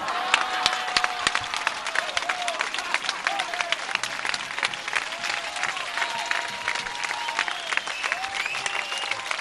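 Dense audience applause for a recited verse, with many hands clapping at once, a steady crackling roar sustained for the whole stretch, with faint whistles or cheers rising above it.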